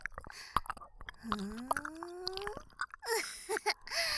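Loud, wet open-mouthed chewing of food, with irregular smacking and squishing clicks, and a brief rising hum of voice partway through.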